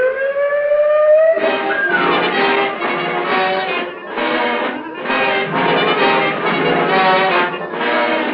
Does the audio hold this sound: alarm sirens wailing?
yes